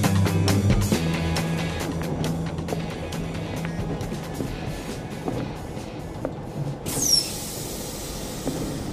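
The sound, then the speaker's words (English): A train rolls steadily along the rails with a heavy, continuous rumble and repeated clacks over the track joints, and a brief high wheel squeal near the end. No one speaks. “How long is this train?”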